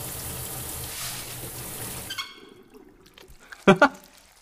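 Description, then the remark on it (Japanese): A steady hiss of shower water spraying for about two seconds, then it cuts off, leaving near silence broken by a short voiced sound from a person. “ほら、お望み通りシャワーで行けよ、このインラン。”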